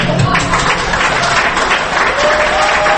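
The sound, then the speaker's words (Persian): A steady wash of audience applause at an awards ceremony where the radio show Radio Pas Farda won two silver trophies, many hands clapping in a dense, continuous patter at fairly loud level throughout, with a faint murmur of voices blended underneath. “بله این اونجا به تشویق کردن.”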